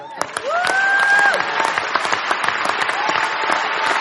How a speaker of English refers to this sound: You got to know that I'm going to put this mic down and clap.